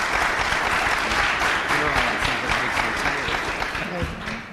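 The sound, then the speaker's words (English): Sustained audience applause at an Honors College event, a dense steady wash of many hands clapping at an even loudness throughout, with faint voices mixed in beneath it. “So before we even begin, how about a round of applause for recognizing who we have in the room?”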